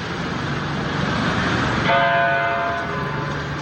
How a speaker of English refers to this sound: churches across Newtown, Connecticut, rang their bells 26 times in remembrance of lives lost. Hear the first. Then a long 19 seconds before the second, and on, 6 minutes of bells in Newtown.